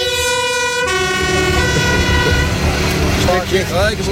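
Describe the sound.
A fire engine's siren wails loudly, a sustained horn-like tone giving way to rising and falling sweeps, over rumbling engine noise and background talk. The engine arrives at the farewell for Zeeuwwind's first wind park to symbolically cut a wind turbine's cable.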